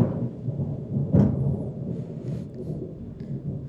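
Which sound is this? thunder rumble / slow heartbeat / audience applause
thunder rumble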